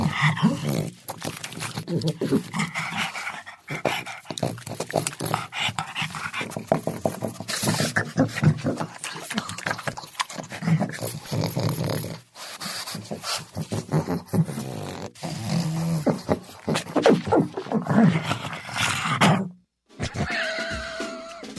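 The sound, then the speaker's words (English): A pug grunts and snorts almost nonstop, fairly loud: a steady run of wet nasal snorts and throaty huffs, briefly pausing just before the end. Game company Bungie is using the pug to make alien sounds for its next game. “Is using a pug. The dog, a pug?”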